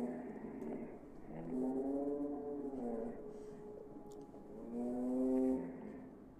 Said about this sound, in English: I knew that sound. The roar of the Leviathan from the Tuscany tapes.